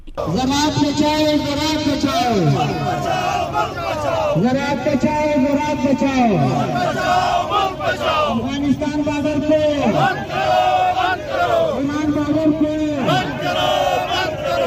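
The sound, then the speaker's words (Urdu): A crowd of protesting farmers chants slogans in unison during a procession over low tomato prices, with tomatoes dumped on the road; loud and continuous, with a rhythmic call repeating roughly every two seconds over steady background noise. “اس موقع پر انہوں نے بھرپور نعرے بازی کی.”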